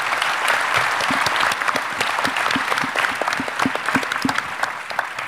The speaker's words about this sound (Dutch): Ik zou zeggen, gewoon uit sympathie, die gasten hebben wel wat gewerkt in hun campagne, geef ze eens een applaus, de kopstukken van de gemeenteraadsverkiezingen 24.